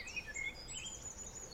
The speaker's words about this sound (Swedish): Vi har fåglar.